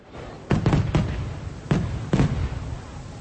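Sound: fireworks going off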